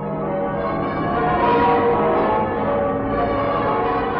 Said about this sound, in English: Those are the bells of victory ringing on V-Day in Westminster Abbey, London. Those are the bells of yesterday.